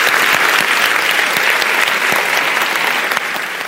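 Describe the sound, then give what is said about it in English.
Sustained applause from a debate audience for the panellists, a dense, loud wash of many hands clapping at once with no gaps, holding steady for several seconds and dipping slightly at the end. “But please give a warm round of applause to all of our panellists for their fantastic contribution.”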